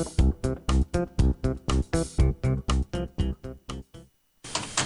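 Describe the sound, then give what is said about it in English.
A printer prints a finished project, not in color, running through a page with a quick, steady series of loud mechanical buzzing passes, then pauses briefly before a final whir starts up. “Okay, project done and print. No, not color. Sound familiar?”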